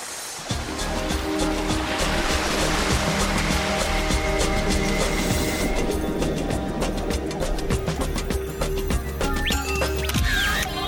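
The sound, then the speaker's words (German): Clear water sloshes and laps steadily beneath a long wooden pier, a continuous watery wash with small splashes, while faint sustained tones hum underneath. No one speaks. “Unter mir schwappt klares Wasser.”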